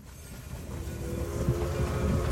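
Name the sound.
moving train interior rumble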